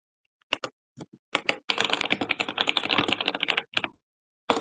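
Keyboard typing while writing a paper on education and youth mentors: a few scattered keystrokes, then a fast continuous burst of clicking for about two seconds, trailing off into a couple of final taps. No voices.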